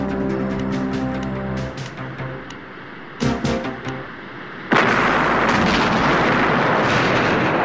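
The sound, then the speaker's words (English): Mines on a beach explode, set off when a control center is blown up: a sharp blast cuts through a low humming background, then a massive detonation erupts into a loud, sustained roar and rumble that continues to the end. No one speaks. “Well, they certainly did it. Half the beach is blowing up.”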